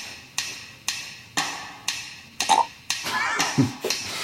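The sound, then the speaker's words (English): A short, gurgling burp rises near the end over a steady backdrop of sharp, evenly spaced ticks, about two per second, with no talking. “What are these miscellaneous sounds? That's a good question. Burp.”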